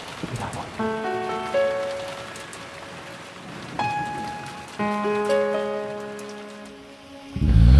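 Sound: steady rain falling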